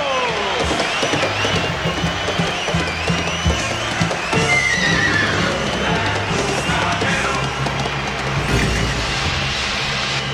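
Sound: horse neighing and hooves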